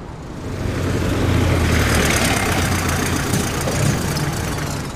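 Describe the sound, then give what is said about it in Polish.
The heavy engines of a tractor and a truck idle steadily as they return from snow-clearing work, a low rumbling drone with a faint knocking rhythm that swells slightly. No talking. “widzę, że już traktor, ciężarówka i wujek Stefan wrócili z akcji”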